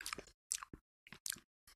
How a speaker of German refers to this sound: Mögen auch, glaube ich, unsere Hörerinnen gerne, wenn wir so ein bisschen schmatzen und.